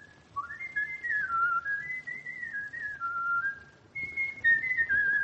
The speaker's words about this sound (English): My gosh, I never heard him whistle like that before. Shh, listen.